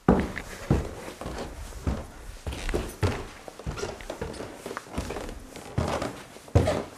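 Guests' footsteps climb the wooden staircase of a villa in the High Tatras at a steady, unhurried pace, each step a hollow thud with a faint creak of boards, about a dozen treads in a row.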